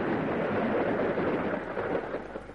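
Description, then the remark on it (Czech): A steady, dense rush of rain fills the scene while low thunder rumbles underneath, a continuous stormy roar without voices, holding fairly loud throughout and easing slightly toward the end. “Podívejme, bouřka. A prší.”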